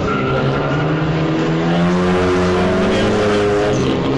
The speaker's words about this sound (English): We need a blower to blow this paper off the track.